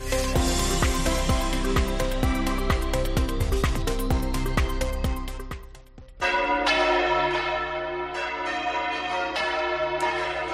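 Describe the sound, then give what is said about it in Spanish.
Church bells peal loudly and continuously, a rapid cascade of overlapping strikes for several seconds, then a brief dip before the ringing resumes with long, sustained resonant tones. “Qué sonido tan bonito, ¿eh?, el de las campanas.”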